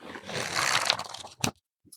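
Book pages are riffled in a continuous papery rush for about a second, ending in one sharp flap, followed by a couple of faint soft taps. No one speaks.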